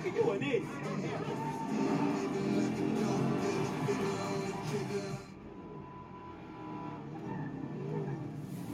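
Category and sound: vehicle, car driving on road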